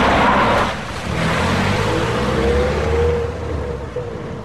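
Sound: car arriving and stopping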